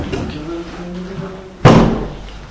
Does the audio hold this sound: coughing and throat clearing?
no